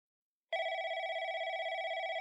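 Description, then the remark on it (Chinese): After a short silence, a telephone starts ringing loudly, a steady trilling bell tone with a fast rapid warble that continues to the end without pause; it is a call from the husband. “再过几天就是我的生日了，老公来电话没法回来给我庆生，说着抱歉的话。”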